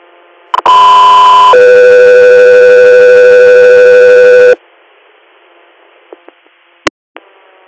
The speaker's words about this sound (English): Echo 3, or stand by for tone.